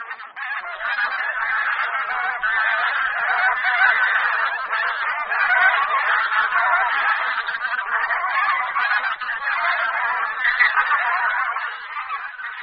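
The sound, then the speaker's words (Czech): A flock of bean geese honking continuously, many overlapping nasal calls forming a dense, steady clamor with no speech. “Husa polní požírá především tedy ozimy, na kterých mohou velká hyna těchto husí napáchat i citelné škody.”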